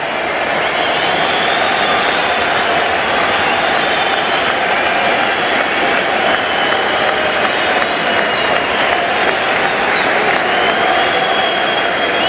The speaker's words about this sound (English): Tremendous ovation.